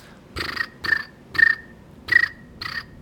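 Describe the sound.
A person imitates chirping crickets with five short, raspy chirps in a steady rhythm, each ending in a thin whistle-like tone, fairly loud with quiet gaps between.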